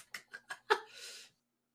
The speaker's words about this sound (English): We can hear your membrane-ass keyboard.